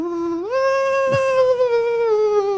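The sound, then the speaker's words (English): A voice hums a whiny, buzzing tone that swoops upward and then holds a wavering, theremin-like pitch, imitating a mosquito playing a theremin, with a brief click partway through. “Now, what if that mosquito found a theremin? What would that sound like?”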